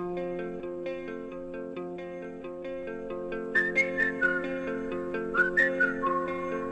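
A song plays with steady instrumental backing, then a bright, melodic whistled tune enters about halfway through, gliding over the music in short, lilting phrases.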